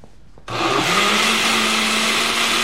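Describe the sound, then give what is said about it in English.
After a moment of quiet, a juicer motor kicks on abruptly into a loud, steady whirring roar, its low hum rising briefly in pitch before holding constant as the fruit is blended. “We're juicing.”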